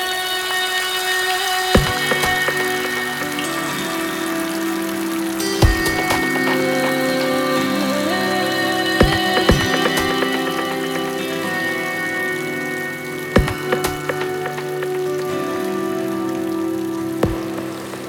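Steady rain patters throughout, mixed with sustained instrumental music tones and a few sharp, sudden knocks or drips every few seconds. No one speaks.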